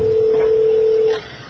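A single steady electronic cell phone keypad dialing tone as a call is placed from a court's cell phone, holding for about a second at moderate volume, then cutting off, leaving faint background noise.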